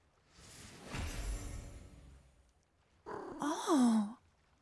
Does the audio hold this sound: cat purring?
yes